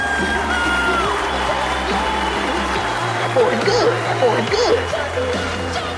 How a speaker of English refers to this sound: I want you to put your hands together and welcome him to the stage. Big round of applause.